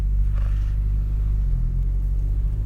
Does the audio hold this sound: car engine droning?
yes